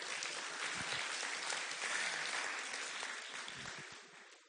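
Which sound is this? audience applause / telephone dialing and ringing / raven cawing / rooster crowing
audience applause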